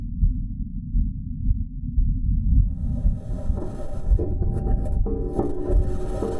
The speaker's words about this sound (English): The Perseverance Mars rover has provided the first sounds from the red planet, and they are both familiar and literally out of this world. Just close your eyes and imagine you are lounging on a foreign planet with the rustling of wind.